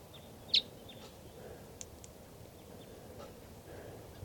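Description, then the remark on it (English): A lone female wild bird, up in the trees by a truck and coming down, gives two sharp, high chirps several seconds apart, with a few fainter notes in between, over a steady low outdoor rumble. “So recording, that wild bird is still here. I think it's a lone female.”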